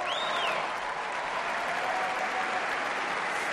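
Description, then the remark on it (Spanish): Steady, dense applause in a tennis stadium, with a player's mother and father applauding, fills the whole stretch, many hands clapping in a continuous wash with no pauses, and a brief high whistle rising and falling at the start. “Vuelve a aplaudir su madre y su padre.”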